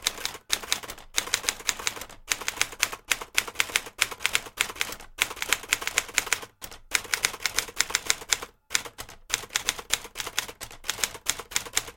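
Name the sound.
typewriter typing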